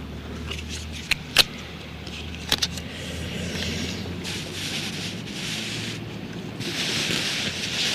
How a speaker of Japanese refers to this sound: 照センサーに、これで OK で、テープを巻いてと。